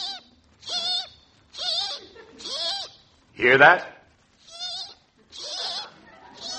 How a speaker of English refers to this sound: Yes, kids, it's cheapies. The breakfast food that chirps like a bird. Just leave some on your windowsill at night and it wakes you up in the morning.